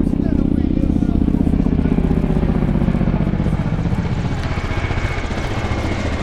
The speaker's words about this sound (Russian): Сначала отработка посадки вертолета. Мы отошли далеко в море. Немного замедлили ход для посадки. И вот вертолет подлетает и сначала сбоку зависает в воздухе.